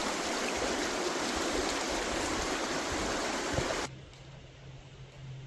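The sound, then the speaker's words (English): Water rushes steadily over Freddy's Weir on a river in a dense, continuous, loud roar, then drops abruptly to a quieter, thinner flow for the final seconds. “Well, it said Freddy's Weir, so you can figure that out.”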